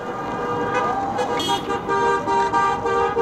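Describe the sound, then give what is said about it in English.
Several car horns from passing cars honk repeatedly and overlap, sustained blasts over steady street traffic noise, with faint crowd voices mixed in the background, as the cars show support for hundreds of Ukrainians and supporters marching in Phoenix. “Cars showed their support as they passed by.”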